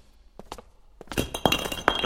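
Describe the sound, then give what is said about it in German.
A flashlight drops and hits a hard floor in the dark, with a few light knocks followed by a louder run of clattering, rattling impacts as it bounces and rolls. No voices. “Tut mir leid, mir ist die Taschenlampe runtergefallen.”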